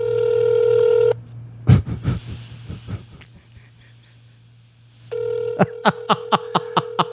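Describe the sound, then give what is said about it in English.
A steady phone tone hums, then a cluster of sharp taps, and later a quick run of evenly spaced keypad beeps over the tone, like a number being dialed on a phone. “We'll call my sister.”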